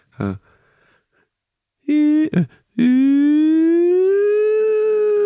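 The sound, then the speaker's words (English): A person vocally imitates an ambulance siren coming towards them, showing the Doppler effect: after a quick breathy sound, a short wail breaks off, then a loud, sustained tone slowly rises in pitch, clear. “but it is about the Doppler effect, about how it feels like when the ambulance is coming towards you, it's a different song to when the ambulance is going leaving you.”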